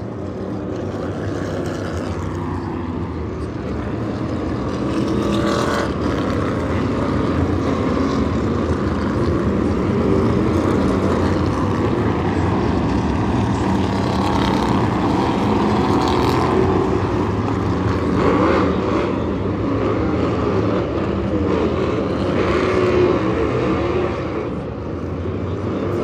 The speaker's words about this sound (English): Listen to the roar of these engines.